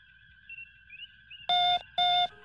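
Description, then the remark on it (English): A faint radio signal being received: two short, evenly spaced electronic beeps with a buzzy, tonal edge ring out over a steady, thin high-pitched whine of background tones and interference. “Captain, I'm receiving a signal. It's faint, but I think I can boost it and remove some of the interference.”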